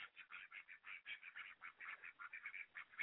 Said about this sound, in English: Those are ducks. Yes, those are ducks. What do they think about WrestleMania? I don't know. They're ducks.